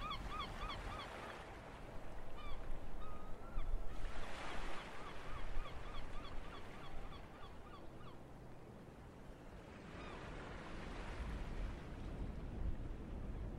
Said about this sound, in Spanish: Las gaviotas volaban en círculos incesantes alrededor de la casa, pero no se animaban a bajar.